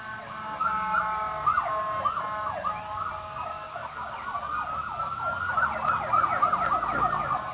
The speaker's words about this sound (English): Sirens in the background, if they could go on mute. Thank you. Oh, I'm sorry. That's not even me. With me. I'm close to the White House. Sorry. Ah, yes. The sweet sound.